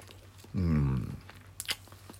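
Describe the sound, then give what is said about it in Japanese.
Mouth noises of someone eating a FamilyMart egg salad sandwich: a brief hummed vocal sound, then a quick soft crunch of biting and chewing, with no talking. “咀嚼音がしますので、はい、ご注意ください。”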